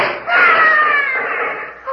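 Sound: person screaming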